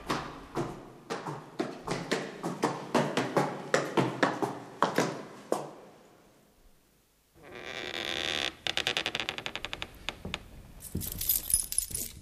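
Keys jangle in a run of bright metallic clinks, then after a short pause a door swings shut with a rushing sweep, followed by quick rattling clicks and more jingling.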